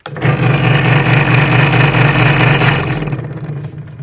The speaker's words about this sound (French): Il faut également rabattre le capot de sécurité. Il protège nos mains de la lame. Il y a aussi un flexible à air qui souffle la sciure. Écoutez le bruit de la scie.